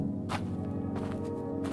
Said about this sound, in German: Unsere Schritte werden dumpfer, die Schatten länger.